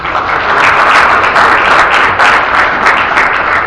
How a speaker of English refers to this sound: Please give him a round of applause.